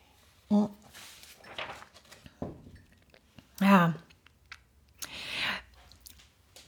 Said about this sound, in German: Ich brauche mal eben ganz kurz einen Schluck Wasser, Entschuldigung.